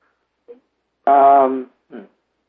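A person hums one sustained, steady note for about half a second, fairly clear and close. Short, faint vocal sounds come just before and just after it.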